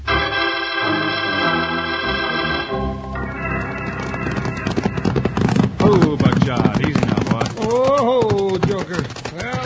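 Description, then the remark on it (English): A sustained musical chord gives way to lathered horses slowed to a walk after hard riding at the edge of the dusty cow town of Angel's Fork, their hooves clip-clopping in a steady rhythm, with indistinct vocal sounds rising over the hoofbeats near the end. “After hours of hard riding, Wild Bill and Jingles pulled their lathered horses down to a walk at the edge of the dusty cow town just in time to become involved in the Sunnyside Scrap.”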